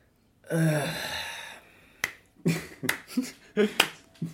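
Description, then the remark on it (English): A long breathy sigh, then a slow run of about six or seven sharp, crisp hand claps at an unhurried, slightly uneven pace. No talking. “That, by the way, listeners, was me sighing and slow clapping.”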